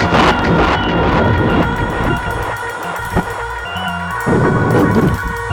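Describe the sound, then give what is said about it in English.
Loud, sustained thunder rumbles and crashes amid lightning through the whole stretch, a deep rolling roar that swells, dips briefly in the middle, then surges back strong toward the end. “Lightning and thunder are crashing down around us.”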